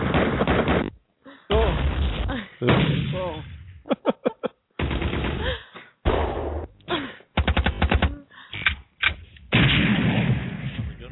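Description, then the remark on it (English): A rapid barrage of gunfire sound effects: loud bursts of automatic fire and sharp single shots, with heavier booming blasts mixed in, coming in uneven clusters separated by brief silences. “Can you play more gun sound effects?”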